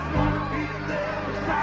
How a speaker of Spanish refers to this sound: Vamos a dar, yo creo que un fuerte aplauso a tres compañeros que vienen de puntos muy lejanos.